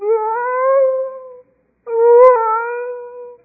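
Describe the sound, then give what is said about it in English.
A voice imitates whale song with two long, drawn-out moaning tones, each gently rising and wavering, separated by a brief pause. It is fairly loud, with no other sounds. “That means even the whales sang. You know the whale song?”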